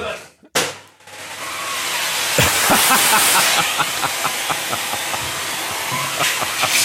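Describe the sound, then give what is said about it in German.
A vacuum cleaner switches on after a brief thump and runs with a loud, steady roaring whoosh as it sucks up a spider along with some money, a series of quick rattling clicks sounding. “Da ist jetzt Geld mit in den Staubsaugerbeutel gegangen.”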